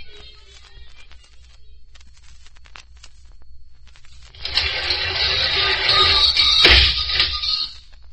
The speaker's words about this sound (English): Garage's door makes a lot of noise, doesn't it